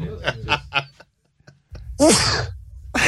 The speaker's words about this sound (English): should we all do our distinct sneezes? Yeah. It's just amazing the duality of sneezes that you can have. How's your guys' fake sneezes?